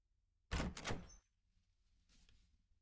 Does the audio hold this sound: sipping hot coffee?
no